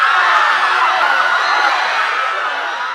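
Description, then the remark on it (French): A dense crowd in a village screams and shouts at once, a loud, continuous wall of overlapping voices with no pauses, holding steady throughout and easing off only slightly at the very end. “Un jour, alors qu'ils passaient dans un village, ils entendirent des hurlements.”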